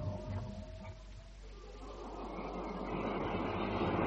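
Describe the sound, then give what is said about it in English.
Railway station ambience at Waterloo Station: a steady low rumble of trains with a broad hiss that swells and grows louder toward the end, no voices standing out. “You better drive to Waterloo Station, Sergeant, and hope and pray he'll be there waiting.”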